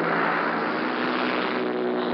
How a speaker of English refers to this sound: The sky now is full of the noise of these paratroop planes as they circle the aerodrome before they take their course. But just as they're circling in the air, so the others that are waiting to go are circling the track of the aerodrome.